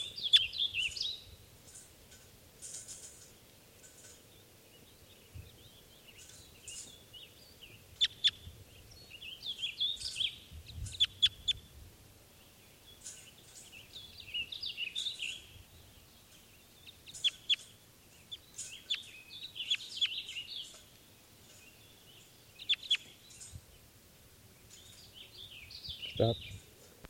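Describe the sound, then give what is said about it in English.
Birds call in repeated bursts of high, sharp chirps and twitters throughout, fairly faint, over a steady low rumble of background noise; other birds have taken off, leaving a single lone male. “Other birds have taken off, and there's a single lone male here.”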